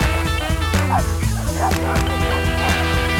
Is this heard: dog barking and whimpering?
yes